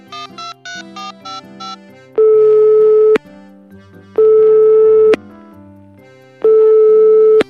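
A short run of quick electronic beeps, then a phone's ringback tone sounding three times while calling a mobile phone that goes to voicemail, each long steady buzz lasting about a second with pauses between, clear with no voices.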